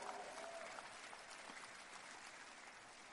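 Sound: audience clapping hands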